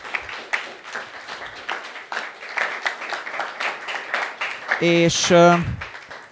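An audience claps steadily for several seconds to thank its volunteer helpers, a dense patter of hand claps, with a brief tonal cheer or whoop rising near the end before the clapping continues.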